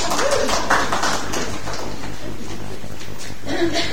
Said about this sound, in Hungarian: Ennyi volt a jelenet, köszönöm szépen. Tapsoljuk meg a fiatalokat.